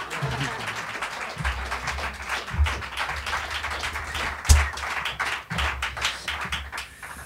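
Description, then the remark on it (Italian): A concert audience applauds steadily, dense overlapping claps forming a continuous loud wash for several seconds, with a few low thumps underneath. “Vorrei che questi applausi potessero durare tantissimissimo di più, perché mi unirei al loro infinito applauso.”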